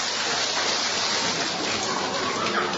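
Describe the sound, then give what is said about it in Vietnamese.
A crowd claps steadily to welcome a group of people, a dense, continuous wash of many hands with no individual claps standing out, holding an even loudness throughout with no voices over it. “Rồi chúng ta cho một tràng pháo tay để chào mừng tất cả những anh chị em này.”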